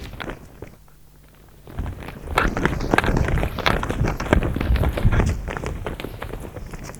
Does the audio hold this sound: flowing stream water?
no